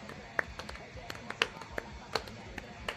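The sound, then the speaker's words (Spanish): A soft, sparse golf clap congratulating a recent architecture graduate: a handful of light, polite hand claps spaced irregularly over a few seconds, quiet and unhurried, with faint background murmur between them. “Un aplauso de golf por su titulación.”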